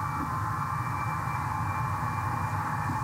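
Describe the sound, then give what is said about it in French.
A large airplane, weighing over 589,000 kg and used to launch a Pegasus rocket, takes off with a steady, loud jet roar, a broad rushing noise topped by a high engine whine, holding constant throughout with no voices. “L'avion a décollé.”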